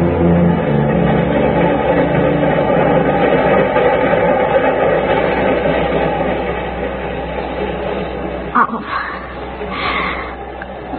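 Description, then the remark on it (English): A subway train rumbles along with a steady, loud, continuous roar, a brief metallic clatter breaking through near the end as the car keeps running. “Subway, go faster.”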